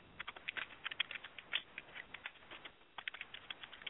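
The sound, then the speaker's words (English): Rapid, uneven clacking of typewriter keys from a caller in area code 916 on a live phone call, with a short pause in the middle before the tapping resumes. It sounds thin, as if heard over a telephone line, and nobody speaks. “Sounds like they are typing at their typewriter here.”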